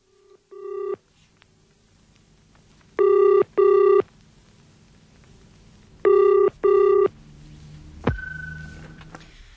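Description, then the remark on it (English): A telephone call made from a phone box rings out through the handset: a brief tone, then two double-burst rings spaced apart, ending with a click and a short tone as the line connects to Mr. Rollison's residence. No one speaks. “I must nip into this box and make a couple of phone calls.”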